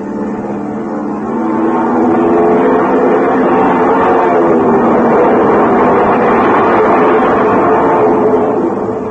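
airplane engines revving

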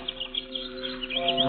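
birds chirping

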